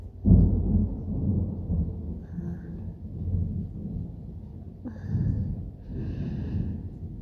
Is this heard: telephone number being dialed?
no